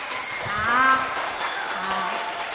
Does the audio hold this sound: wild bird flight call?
no